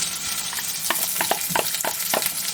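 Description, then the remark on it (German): Onions sizzle steadily in hot oil, a bright hiss filling the upper range, broken by a series of soft stirring scrapes roughly every half second. No one speaks. “Wenn ihr fast zischelt, das ist Öl und Zwiebeln.”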